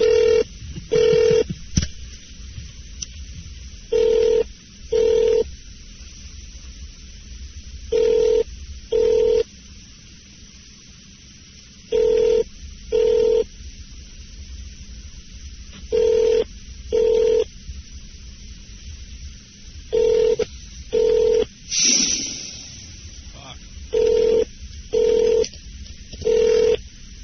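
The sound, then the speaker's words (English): A telephone ring-back tone heard over the line on a call put through by the Grand Hyatt San Diego, ringing in steady double bursts about seven times across roughly half a minute, with nobody picking up and no talking. “Isn't that just like a fucking telemarketer not answer a damn phone and punks?”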